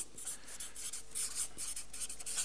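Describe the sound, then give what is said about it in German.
A drying-out pen scratches across paper in short, uneven strokes as someone writes down notes, a dry, raspy writing sound with no one talking. “die Stifte geben den Geist auf.”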